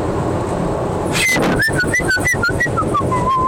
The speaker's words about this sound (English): God, how do you whistle? I used to be able to whistle differently. That's just blowing through my lips. How do I... No, that's still the same whistle.